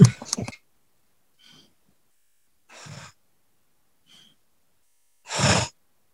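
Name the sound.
deep belly breathing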